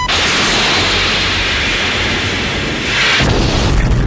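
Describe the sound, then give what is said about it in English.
Cockpit audio from the film Top Gun: a loud, steady jet roar with a thin high whine running through it, then a sudden heavier explosive blast near the end as the missile strikes. No voices. “We got cockpit audio.”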